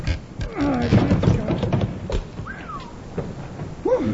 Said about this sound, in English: On the suspicion that Ace Batty is hiding Kate's stolen goods in a cellar under his store, Bill and Jingles wait until after dark and go back to pry up the trap door in Ace's loading platform. All right, Jingles. One more big one.